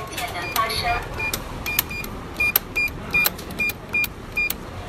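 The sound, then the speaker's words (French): A cash machine dispensing a banknote, taking about 10 to 15 seconds: a series of short, regular mechanical whirs and clicks, about two per second, with a bright high-pitched rattle over a low background hum. “Voilà, maintenant le billet est sorti, ça prend environ de 10 à 15 secondes.”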